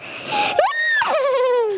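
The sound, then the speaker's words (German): Someone imitates a horse's whinny: a loud, high-pitched neigh with squealing rises and falls that ends in a long, wavering, descending tone. “Oh, gutes Pferd.”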